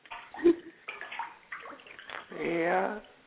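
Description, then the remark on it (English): Water splashes and sloshes in a bathtub as someone takes a hot bath, with a fuller rush of running water near the end, while people talk over it. “I can hear the water dripping in the background.”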